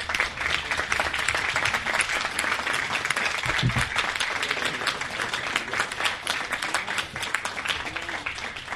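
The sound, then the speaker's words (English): Sustained applause from an audience for a man who has just finished speaking, a dense, steady wash of many hands clapping at a constant loudness for the whole stretch, with no voices standing out. “Can I get one more round of applause for this man?”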